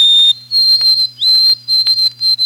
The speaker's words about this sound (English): The song that most people ask me about is the whistle of the white-throated sparrow, fondly nicknamed the Peabody Bird.